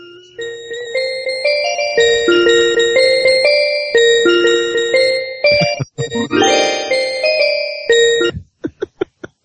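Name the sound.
ice cream truck jingle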